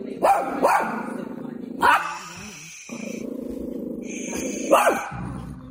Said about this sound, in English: Barking, barking, barking, barking, growling, barking. It was just not right.